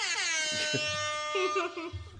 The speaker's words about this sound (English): Oh, wait. I have to do the air horn. I can't do the noise.